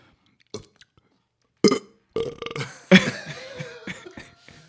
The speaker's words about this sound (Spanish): A ber, asmatu zein den egitazko eruptoa, joku bat.